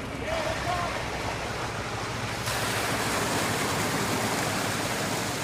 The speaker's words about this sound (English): A semi-truck filled with juvenile salmon from the Coleman National Fish Hatchery is backing up to a pipe. Thousands of fish are then shot through the pipe into three large net pens in the Sacramento River in Rio Vista.